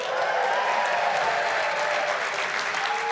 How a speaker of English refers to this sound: We're gonna have fun with this now in all the rooms. Let me hear you cheer.